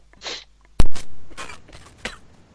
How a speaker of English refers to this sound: I muted myself and coughed, but apparently I didn't mute myself, so I'm sorry about that. No, you partially muted it and sounded like a woman coughing.